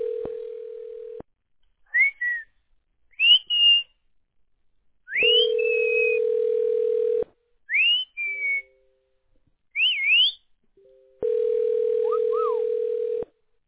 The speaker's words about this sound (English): Damn bird.